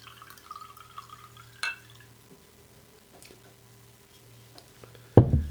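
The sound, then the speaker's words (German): Wine trickles into a glass with a light clink partway through, followed by a few soft drips, then a sudden loud knock of something being set down. “Wenn du zügig gießt und zügig absetzt, tropft sie nicht.”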